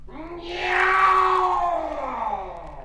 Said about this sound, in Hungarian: Jaj, mi volt ez? Egy macska.